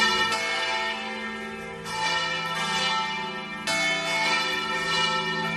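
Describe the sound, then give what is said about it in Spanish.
The large bells of the cathedral in Santander, Spain, peal continuously on a festive Monday morning, with fresh strikes at about 0.4, 1.8 and 3.7 seconds layered over long ringing overtones. They sound loud, with no voices. “Así sonaban durante todas las mañanas las campanas de la catedral.”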